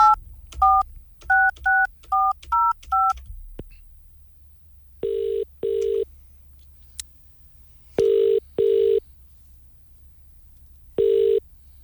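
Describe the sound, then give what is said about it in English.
A rapid run of about eight telephone keypad tones as someone dials a random number, followed by a ringing tone sounding in paired double bursts with pauses between, clear with no voices. “I'm just doing one of these things where I'm calling up a random number and seeing if the person's interested in maybe starting a friendship.”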